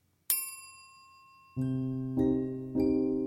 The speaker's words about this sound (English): A bell rang. Okay, that's 20 minutes, our host said, giving us an opportunity to rearrange and cuddle with new people.